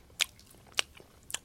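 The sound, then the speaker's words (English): Three crisp, crackling bites into a chocolate sea salt protein bar (1.83 ounces, 12 grams of protein), evenly spaced about half a second apart. Each is a short, bright crunch over near silence, with no talking. “It's crackling a little bit. I should get a crackle bar.”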